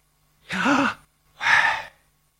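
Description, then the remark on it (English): Two slow, deliberate breaths, an audible inhale with a slight voiced edge followed by a breathy exhale, each lasting about half a second and separated by brief silence. “It's been said that that is breathing.”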